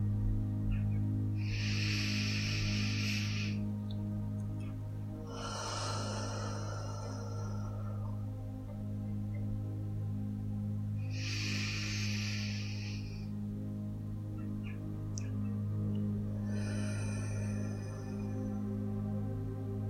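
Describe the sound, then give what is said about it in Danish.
Slow, deep guided breathing in a sleep meditation: a soft airy inhale through the nose followed by a longer, breathier exhale through the mouth, repeated twice over a steady low hum, with no talking. “Vi starter med lige at tage 3 dybe vejrtrækninger sammen. Ind igennem næsen og ud igennem munden.”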